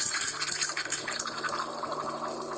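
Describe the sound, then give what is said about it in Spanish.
A coffee maker brewing, with steady hissing and bubbly gurgling of liquid over a faint low hum, continuous and even throughout with no voices. “Lo que escucháis es una cafetera y he elegido este sonido por lo que significa para mí tomar un café.”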